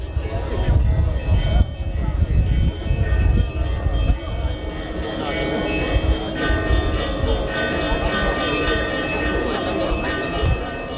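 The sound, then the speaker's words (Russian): The bells of Kazan Cathedral in Stavropol ring out in a continuous peal, their overlapping tones sustained over a dense, rumbling background of crowd noise and murmured voices outdoors. Guests and participants of the Grad Kresta fair and diocesan clergy greet Metropolitan Kirill of Stavropol and Nevinnomyssk. “Под перезвон колоколов Казанского собора гости ярмарки, ее участники, а также священнослужители епархии встречают митрополита Ставропольского и Невинномысского Кирилла.”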